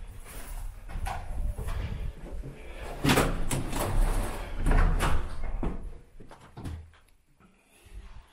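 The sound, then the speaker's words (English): A heavy door grinds and slides open, a sustained rumbling scrape with clanks and thuds along the way, loud, then settling into a low hum near the end. “Ooh, I am not going through that door.”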